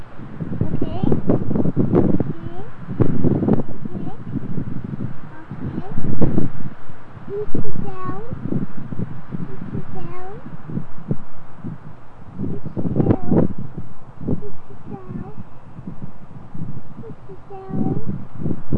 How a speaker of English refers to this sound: It's so stormy and windy and pretty. It's almost dark and the wind's blowing. The clouds are moving. It's close. This is just beautiful. You feel the wind blowing?